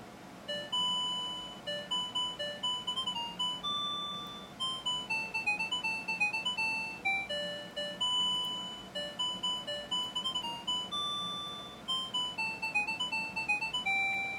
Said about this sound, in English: Now, who doesn't want to be awakened by that? How cool is that, right? All right, I'm going to turn the alarm off, so I'm going to flip the set switch down.